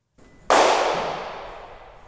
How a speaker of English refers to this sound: So it sounds like a 22 blank because I saw the play. Mm. And I saw them do the shooting at the end, and it sounded like that.